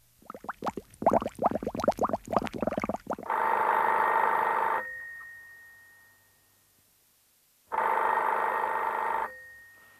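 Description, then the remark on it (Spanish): An old wall-mounted telephone's bell rings in two long, loud bursts separated by a pause, preceded by a rapid series of sharp clattering knocks. No one speaks. “Yo soy el viejo teléfono, el que lleva años conectado fielmente en la pared.”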